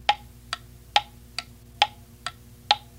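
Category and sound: household object, clock ticking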